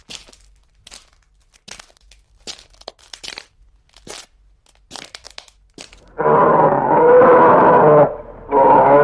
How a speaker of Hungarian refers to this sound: Uramisten! Egy medve! No, ne tessék félni.